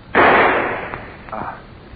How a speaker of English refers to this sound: Just as I reached the landing, I heard the shot.